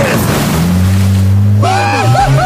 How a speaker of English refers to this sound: Are you kidding me? Yeah, this is so fun. Yeah, I'm in a Lamborghini boat.